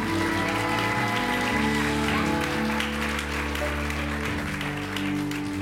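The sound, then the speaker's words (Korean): A church audience claps steadily for several seconds for the youth group students, a dense crackling wash of applause layered over sustained, held keyboard chords that keep playing underneath throughout. “정말 우리 학생부 아이들을 위해서 우리 유스그룹을 위해서 우리 다시 한번 박수 한번 칠까요?”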